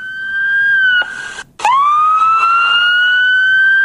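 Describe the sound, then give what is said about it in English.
A loud electronic siren-like scream alarm from the Lookout security app on a phone sounds with a steady, piercing high tone, cuts out for a split second, then swoops back up and holds. No one speaks over it. “And then I have to click stop screaming for it to go away.”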